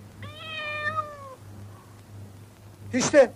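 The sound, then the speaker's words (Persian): A single drawn-out meow from a cat on a railing outside a window, clear, sliding slightly downward in pitch, followed after a pause by a brief noisy clatter over a steady low hum. “دوست میاد جلوی پنجره. گربه ای رو روی نرده مقابل میبینه.”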